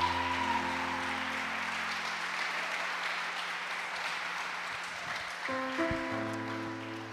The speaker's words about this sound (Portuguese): Casados? Que bom que vocês vieram juntos, porque no casamento é melhor ver de dois. Vamos aplaudir esse casal aqui, lindo.